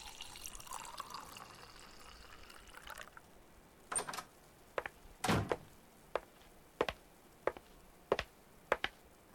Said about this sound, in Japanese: おい、彼女。お前、ドアの閉め方が彼女らしくないぞ。バタンって言ったぞ。そんな、荒っぽく閉めるんじゃない。